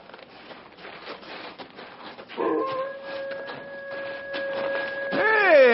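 A dog lets out a long, steady howl over rough background noise, then breaks into a louder, wavering, strong howl near the end.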